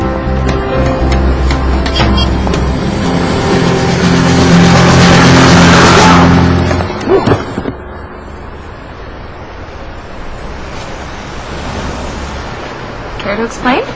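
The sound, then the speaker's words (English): A small scooter engine revs loud, its buzzing whine climbing in pitch for several seconds, then cuts away abruptly, leaving a quieter, noisy background. “Yeah, I just thought the scooter seemed a little speedy.”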